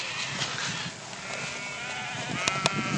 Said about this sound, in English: They all crowd in and try and get a taste from the bucket. Let me just put some on the grass here so that they can... If you try and feed 100 sheep out of one bucket, it gets a little hectic. Just put it in a row.